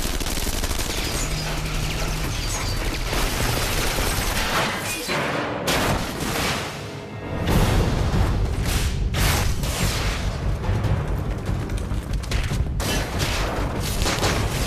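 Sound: gunfire bursts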